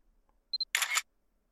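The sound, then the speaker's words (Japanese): A phone camera takes a photo: two quick high focus beeps, then a bright, crisp shutter burst lasting a quarter second, alone in otherwise quiet surroundings. “ん？何撮ってるかって？先輩とオフパコしてますって、投稿しようかと。”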